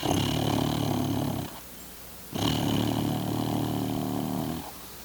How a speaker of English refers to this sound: Yes. Yes. That's a snore for sure. Regular and sonorous. Forms a kind of masking chorus that must have been what drowned out his earlier performance.